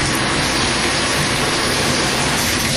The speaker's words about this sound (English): To the right of that is the garden tub. And this is the your standard garden tub with a shower curtain. Hello. And we can actually turn the bathtub on if we want to. And we do.